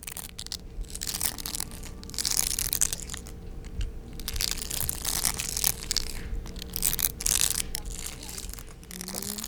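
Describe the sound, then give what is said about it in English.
Dense, continuous crunching and crackling from Osuzumebachi hornet larvae inside their nest, a busy mass of small dry clicks and rasps filling the whole stretch at a steady moderate level. “In their nest, they make this beautiful crunching sound.”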